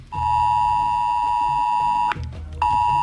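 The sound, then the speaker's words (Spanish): A steady, piercing emergency alert tone signalling a move to red alert level as the Guadalete River rose, holds one high pitch for about two seconds, cuts off briefly, then sounds again, loud over a low rumble underneath. “Y el sonido de la alerta, ¿no? Que pasábamos a nivel rojo.”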